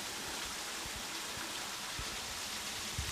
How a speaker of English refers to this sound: you know, we're on a major fault here that's creating this drainage and all this water coming through. And obviously there's water that's pirated out of the main drainage above ground and seeping through these big cracks.